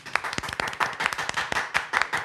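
crowd, applause

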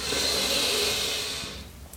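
human body sound, deep inhalation

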